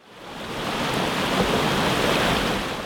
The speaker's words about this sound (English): Rapids in Virginia's New River represent the river corridors and watershed connections that influence the Ohio Valley's human settlement, navigation, fish, other organisms, and water quality.